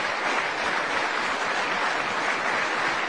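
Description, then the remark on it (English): Sustained concert applause from a festival audience for Tasman Little and Wayne Marshall, a dense, steady wash of many hands clapping at even loudness throughout, with no voices over it. “More applause for Tasman Little and Wayne Marshall.”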